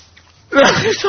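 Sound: sneeze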